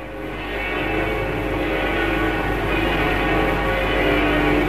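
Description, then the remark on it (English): The great bells of Notre Dame Cathedral in Paris ring together in a dense, continuous wash of overlapping resonant tones, loud and sustained throughout with no pauses and no voices. “The great bells of Notre Dame Cathedral chiming across this timeless town, echoing from the River Seine up to the hill of Montmartre and across to the tip of the Eiffel Tower.”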